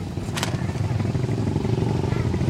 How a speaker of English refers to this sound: The motorcycles going by are all Chinese four-strokes with roll bars and wind fairings and mud flaps, fake snow leopard skin seats, decorated with flying tassels and painted with eternal knots, swastikas, lotus blossoms, and flames.